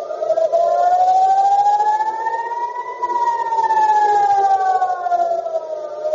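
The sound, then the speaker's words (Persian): A loud air raid warning siren wails steadily in central Israel and Tel Aviv during a missile attack aimed at Ben Gurion Airport, its tone rising slowly and then falling again in one long sweep, with no voices over it. “در زمان حمله مسیر چندین پرواز تغییر کرد و صدای آژیر خطر در مناطق مرکزی اسرائیل، تل‌آویو و بخشی از کرانه باختری به صدا درآمد.”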